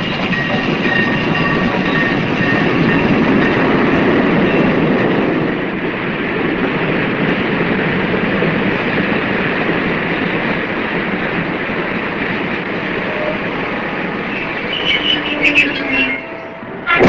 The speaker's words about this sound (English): Then you hear the train start off, and then you hear it leave, and you hear the exhaust for quite a long way. I don't know how many miles it was, but it's a long way off.